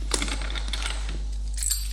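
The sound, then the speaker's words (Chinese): Car keys being picked up jingle in a quick burst of bright metallic clinks and rattles over a couple of seconds, with no voices. “拿起你的车钥匙走吧。”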